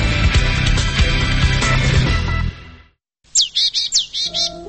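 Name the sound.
songbirds chirping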